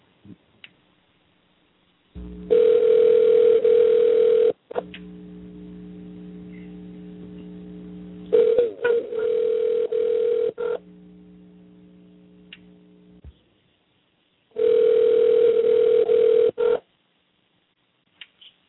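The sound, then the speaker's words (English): A telephone call being placed to Riddick Bowe's manager: a few short dial tones, then steady, buzzing ringback tones in long bursts separated by pauses, with a faint hum between rings. No one speaks. “Anyway, let's give Riddick Bowe's manager here a little call.”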